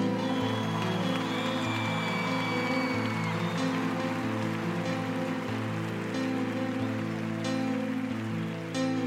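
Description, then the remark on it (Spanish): Steady audience applause for fellow musicians joining to sing a profession of faith, a dense hiss of many hands clapping at even loudness throughout, layered over sustained low musical tones that shift pitch in slow steps. “Un aplauso para ellos, ven.”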